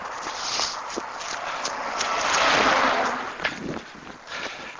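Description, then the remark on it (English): A bus passes in terrible traffic at about 7 o'clock in the morning, its broad rushing roar swelling to a peak midway and then fading, with scattered footsteps and street clatter around it. “Traffic is terrible. Here comes a bus.”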